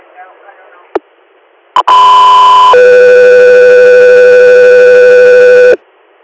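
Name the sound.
radio dispatch alert tones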